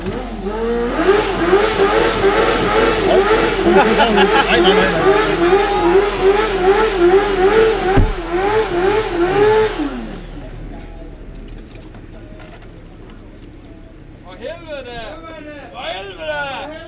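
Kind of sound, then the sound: vehicle, engine revving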